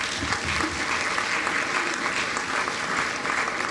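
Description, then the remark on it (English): Steady applause from an audience for a speaker at a discussion session, a dense, even patter of many hands clapping at a constant loudness for the whole few seconds, with no voices standing out. “Let's give Terry a round of applause.”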